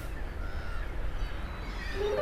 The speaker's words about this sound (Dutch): Hoor de meeuwen.